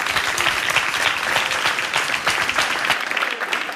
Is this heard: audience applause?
yes